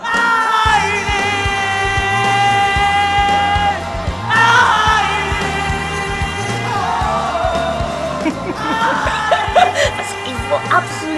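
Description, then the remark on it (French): A group of people in a trance state shouts and sings loudly together in a sustained, chant-like way, with strong repeated vocal tones and rhythmic pulses throughout, the energy surging again near the end. “T'es dans l'état de transe. On crie plutôt.”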